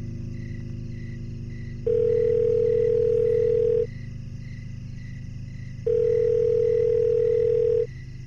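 A mobile phone ringback tone sounds twice, each a steady mid-pitched tone lasting about two seconds with a long pause between, over a constant low hum, as a call is placed to a father with barely one bar of signal.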